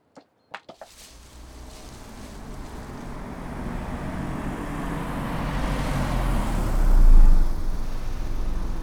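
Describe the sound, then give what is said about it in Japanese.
A few sharp clicks, then a low engine rumble as the family's car rolls slowly by while searching for someone, swelling louder toward the end with wind-like noise and no voices. “あれ、うちの車だよ。探しに来るなんて思わなかった。”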